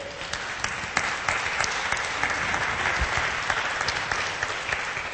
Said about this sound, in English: All right, now that you just had a good applause, you've had a good moment, you're feeling good